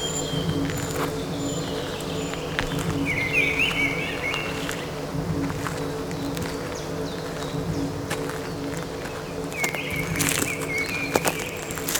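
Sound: blackbird whistling song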